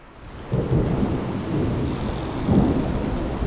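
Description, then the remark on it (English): A thunderstorm at sea, heard on the deck of a ship, with steady rain and deep rolling thunder that swells near the start and again later, loud, with no voices. “Keep your footing. Tie yourselves to one another if you must. We will weather this storm.”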